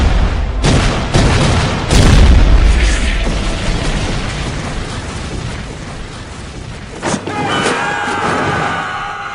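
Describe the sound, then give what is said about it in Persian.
A loud volley of gunfire from soldiers firing on command erupts in a rapid burst of overlapping shots and booms, then continues as rumbling, crackling fire that slowly thins out, with sharp pops returning near the end. “آتش!”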